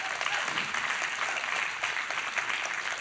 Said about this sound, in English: Please clap for what the Lord is going to do.